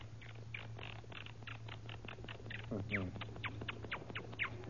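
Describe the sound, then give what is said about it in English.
A voice imitates a chattering monkey with a rapid string of short, squeaky calls, rising into a brief excited burst partway through, over a steady low hum. “Now a monkey.”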